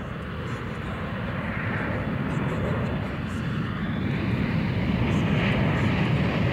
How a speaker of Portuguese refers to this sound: É muito legal esse avião decolando no início dessa música. É fantástico.